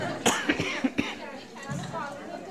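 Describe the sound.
A burst of four sharp coughs in quick succession from a speaker giving a talk in a hall, followed by a person talking quietly at moderate volume.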